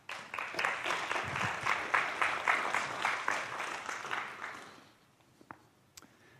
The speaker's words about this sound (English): Thank you. Give him a clap.